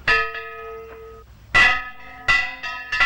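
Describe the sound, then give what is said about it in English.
A church bell on a village church tower clangs loudly as an alarm in repeated strikes, each hit ringing out with bright, sustained metallic overtones that overlap and decay before the next stroke lands. “A bell's clanging on the church tower.”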